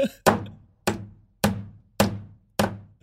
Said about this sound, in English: Chip starts hammering loudly in jealousy.